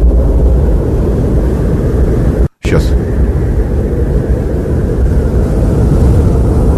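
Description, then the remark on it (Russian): Snowy-day ambience played inside a car: a steady, dense low rumble like muffled wind fills the whole recording. It drops out briefly partway through, and a voice speaks a single word. “Снежный день. А у тебя там снежный день.”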